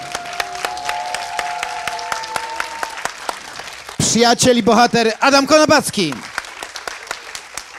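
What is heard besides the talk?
audience applause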